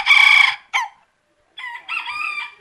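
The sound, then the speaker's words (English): Roosters on a poultry breeder's property in Queensland, Australia, crow in loud, harmonic bursts: a strong call at the start, a short squawk, a brief silence, then another drawn-out crow that rises and wavers. No one speaks. “She said, them roosters bloody crowing early”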